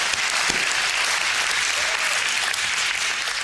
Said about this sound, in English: And in simultaneous chorus, as we are clapping to God in triumph, hell is understanding that they have been defeated by the blood of Christ.